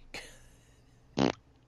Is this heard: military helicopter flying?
no